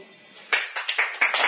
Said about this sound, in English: What are you applauding about? Here I am standing here feeling miserable and you're applauding.